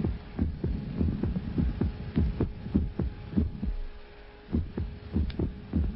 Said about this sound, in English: When I go to bed at night, I keep myself awake listening to the silence that replaces every eighth or ninth beat of my heart.